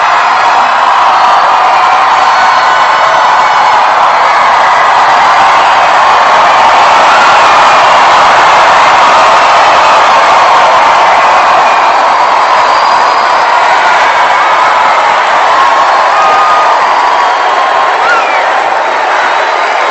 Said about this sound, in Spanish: Pero es un grito corto, porque si se quedan gritando y gritando, no se vale. Es un grito corto. Listos. En las gradas, Mico en Palo. Y abajo, Viva Jesucristo.